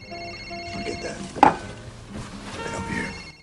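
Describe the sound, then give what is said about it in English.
A phone rings during a dinner party at a house, a steady electronic tone over low background clatter, with a single sharp knock partway through and faint voices. “Carl leans across Mr. Thompson to retrieve his phone. Hello?”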